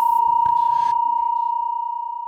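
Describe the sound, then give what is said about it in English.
A steady synthesizer sine wave holds one pure, unwavering pitch for the full duration, loud and clean. A brief burst of noise and a click sound near the beginning. “He dialed up a sine wave, the simplest of the basic sound waves.”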